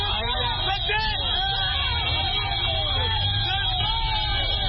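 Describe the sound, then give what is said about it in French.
Hundreds of Bangui residents at the roadside cheer and shout continuously, many voices overlapping at a steady level, while heavy trucks of a convoy from Cameroon, escorted by Central African and Russian soldiers, rumble low and constant beneath the din as they pass. “Des centaines de Bangouisois sont sortis au bord de la route pour saluer avec des cris de joie le passage de ces camions escortés par des soldats centrafricains et russes.”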